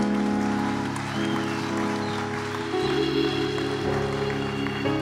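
A crowd claps steadily and densely throughout, a continuous patter of many hands over sustained keyboard or organ tones that hold underneath.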